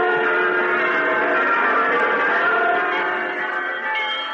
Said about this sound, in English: Hundreds of bells, thousands of bells, tens, perhaps hundreds of thousands of bells. From the clear, joyous village bell, as pure as virgin landscape, to the majestic choirs cast in bronze of the big city cathedrals.